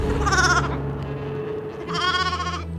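Two loud, wavering sheep bleats, one right after the other with a short pause between, over a steady low rumble of background noise. Grazing sheep by the walls of Nippur.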